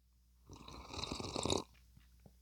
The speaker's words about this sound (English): So after doing that, I'm going to take this is my second sip of coffee that I'm going to take, and here we go.